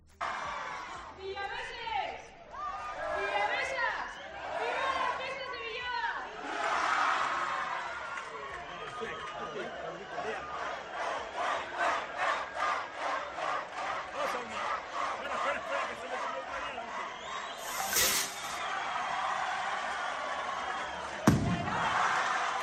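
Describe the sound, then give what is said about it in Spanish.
A large outdoor crowd shouts and cheers, breaking into rhythmic clapping and chanting, before the sharp bang of the festival opening rocket (chupinazo) of Villava cracks out near the end over the continuing roar. “han sido las encargadas de tirar el chupinazo de Villava. Un chupinazo que, por cierto, sonaba así.”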